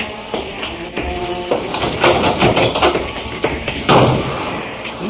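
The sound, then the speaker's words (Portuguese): A door is slammed shut hard by an angry man leaving, a loud bang following a few sharper knocks and shuffling movements, with no one speaking. “Senhor, não, bateu com a porta com força, quer dizer que está zangado muito, não?”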